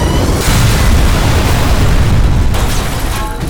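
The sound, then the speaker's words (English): A sled with its force shield up hits heavy steel gates dead on and punches through them: a loud, thunderous boom that swells into a sustained roaring rumble for several seconds, with grinding metallic texture and no voices. “He hit the gates dead on and punched right through them.”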